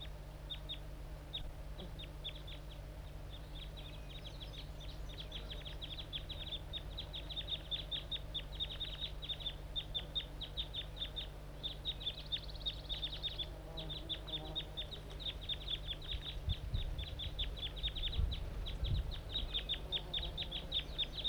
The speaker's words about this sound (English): The wild bird's probably the loud one. He's calling too much.